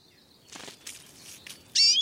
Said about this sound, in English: It's the Siskin for today's Tweet of the Day